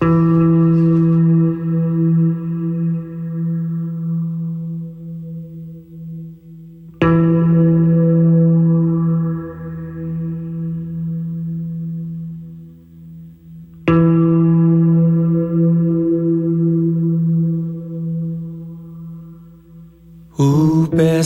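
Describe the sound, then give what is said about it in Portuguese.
An electric guitar opens a song by striking a single low note three times, roughly every seven seconds, meant to sound like a church bell; each note rings out long with a chorus-like shimmer and slowly fades like a tolling bell. “é uma música muito representativa dessa história toda que eu abro ela como se, tocando uma nota só da guitarra, como se fosse o sino da igreja anunciando as marcações das correntezas do oceano.”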